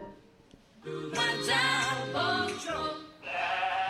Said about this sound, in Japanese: こんなに羊が 走る。